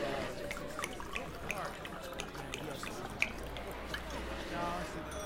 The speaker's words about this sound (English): No, just pour it and make it a big one.